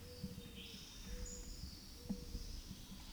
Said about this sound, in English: Acorn woodpecker.